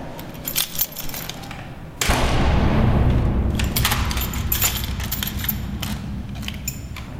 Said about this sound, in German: Wenn gegen die 11 Uhr abends alle Bestellungen verpackt und die Lastwagen unterwegs zur Post sind, dann fährt er die Anlage runter und schliesst alle Türen.